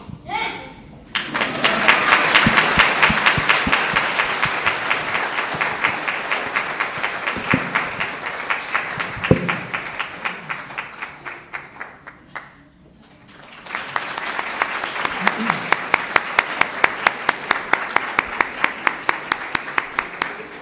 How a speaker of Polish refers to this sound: Brawa, brawa dla naszych dzieci, dla chórku.